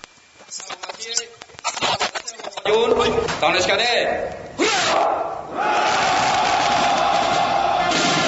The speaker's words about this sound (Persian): ارتشی که افسران آن این گونه برای فرمانده به اصطلاح تاجدار خود هورا می کشیدند